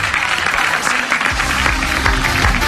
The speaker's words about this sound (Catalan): Un aplaudiment per Joan Maria Pou, sisplau. El narrador de la cursa al RAC1.